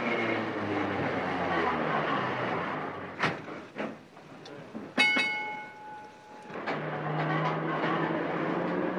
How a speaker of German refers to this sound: Da, endlich kommt das nächste Tram.